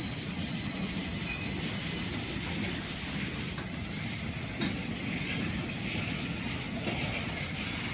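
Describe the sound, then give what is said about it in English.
A train rumbles past, its steady roar filling the air while high metallic wheel squeals ring out over the first few seconds before fading into the continuous clatter. “train full on.”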